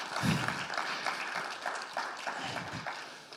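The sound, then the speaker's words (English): A church crowd applauds steadily, a dense wash of many hands clapping at once, fairly loud and continuous without any voices on top, clapping for the people who stay to clean up after the service. “Can we clap for those people maybe?”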